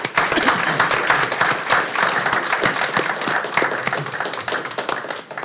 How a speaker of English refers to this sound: How about another round of applause for them?